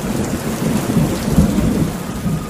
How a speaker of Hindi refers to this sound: आखिर एक दिन काले काले बादल आसमान पर घिर आए और छाजों पानी बरसने लगा।